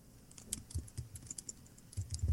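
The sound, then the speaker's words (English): Rapid, uneven clatter of computer keys as several people frantically type to look up who D. Smith is, sharp clicks bunching into quick bursts with low thumps underneath, no voices. “All of us frantically typing.”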